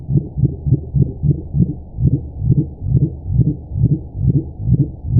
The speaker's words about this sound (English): The complex sound has a lot in common with other calls attributed to the dwarf mink whale. And this is a mink whale.